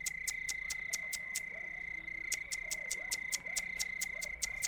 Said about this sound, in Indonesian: Kucing itu menatap tajam, mengawasi bagian dinding atas, menatap seekor cicak yang menggoyang-goyangkan ekornya, dan terus berbunyi.